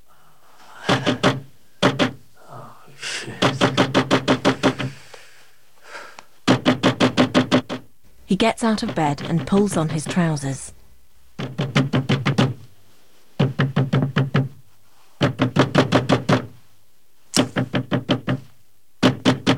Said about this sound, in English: Later, Dave's in bed when he's woken by the knocking.